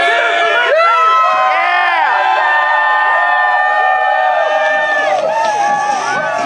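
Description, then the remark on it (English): A crowd at a protest cheers and whoops loudly and continuously as five handcuffed activists are brought out, with many overlapping voices shouting and rising in excited calls, dense throughout. “The five activists were brought out in handcuffs to the cheers of the crowd.”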